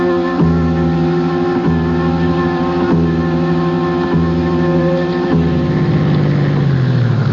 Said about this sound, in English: What are you doing? I'm turning the engine off while I wait for you.